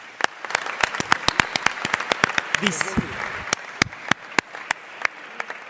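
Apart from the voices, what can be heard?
audience applause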